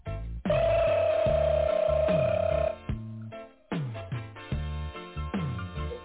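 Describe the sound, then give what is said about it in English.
A telephone rings through a thin, band-limited line, a sustained electronic tone followed by repeated pulsing rings, with no voice answering. “Man, dude, these stupid idiots are not on the phone again.”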